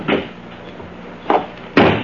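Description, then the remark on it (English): A car door is shut with a heavy clunk on a road after the brake is released, joined by two more solid thuds and clatters, loud and abrupt against a quiet background, with no one talking. “Then stand aside while I release the brake and close the door.”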